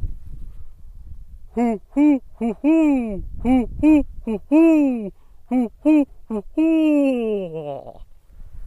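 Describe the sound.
A man, a Kansas University graduate student at a Christmas bird count at Riverfront Park, imitates a barred owl with a rhythmic run of about a dozen loud, throaty hoots, ending in a long drawn-out hoot that slides down in pitch.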